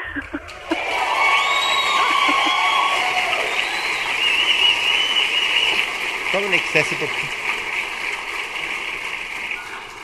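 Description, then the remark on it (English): A crowd applauds and cheers loudly for several seconds in a round of applause for Northcote Town Centre, a dense wash of clapping with scattered whoops and shouts rising over it, starting abruptly and holding steady to the end. “Well, why don't we have a big round of applause for Northcote Town Centre? Let's have a big round of applause.”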